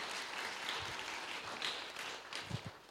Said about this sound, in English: Ooh, let's give him a clap for yesterday.